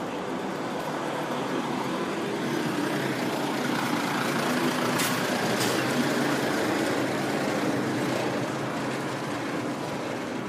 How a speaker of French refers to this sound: Des dizaines de camions attendent leur tour au bord de l'artère qui mène tout droit vers le pont de l'amitié